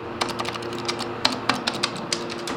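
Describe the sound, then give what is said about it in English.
An elevator button that isn't lighting up is pressed over and over while the doors won't open, a quick series of about a dozen sharp plastic clicks at an uneven, impatient pace, over a low steady hum and with no voices. “Pressing it 8 million times isn't going to help.”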